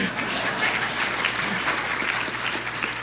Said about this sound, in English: Yeah, I'll clap for you